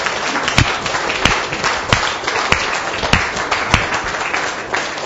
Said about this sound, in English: Let's give the Lord a resounding clap offering.